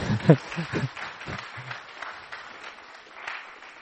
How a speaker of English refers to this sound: Yeah, let's clap hands.